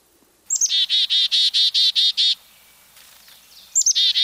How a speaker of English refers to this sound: Listen for the chickadee-dee-dee call of our state bird.